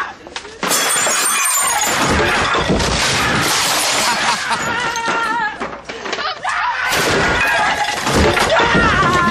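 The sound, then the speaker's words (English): Loud crashes of things being smashed and breaking in a scene from Monday's EastEnders, with glass-like shattering that repeats in bursts throughout, while raised voices carry on over the commotion. “I do not like the word bubbly, but I've never smashed the place up.”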